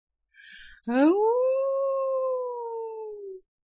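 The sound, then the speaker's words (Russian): A woman imitates a wolf howl at wolves: after a short breathy intake, one long, loud howl, more like a dying scream, swoops upward and then holds, sagging slowly in pitch before cutting off, with a booming echo. “Вой больше напоминал вопль, причем предсмертный.”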